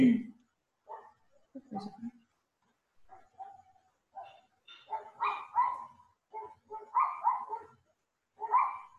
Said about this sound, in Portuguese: aqui na minha rua tem vários. Vários cachorrinhos.